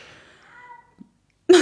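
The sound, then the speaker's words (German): A male cat gives a drawn-out, wavering meow that fades over under a second, followed by a brief soft thump and then a sudden loud noisy burst. “Habt ihr das gehört? Das ist der Kater.”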